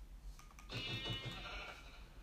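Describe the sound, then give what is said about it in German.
A single sheep bleats once, a wavering, nasal cry lasting about a second, clear with only faint background noise and no talking. “Da ist ein Schaf und 2 Schafe, aber blöd, eins ist braun.”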